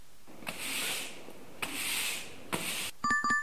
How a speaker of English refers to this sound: Sound is sweeping the floor.